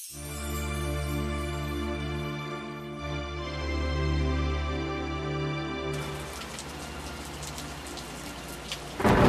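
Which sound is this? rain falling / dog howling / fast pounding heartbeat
rain falling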